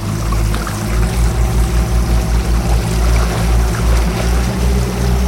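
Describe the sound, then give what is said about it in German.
A motorboat engine rumbles steadily, its low throbbing pulse loud and continuous, with water churning and splashing around the hull as the boat reverses out of the harbor and accelerates. “Rückwärts fährt er jetzt aus dem Hafen raus und gibt Gas.”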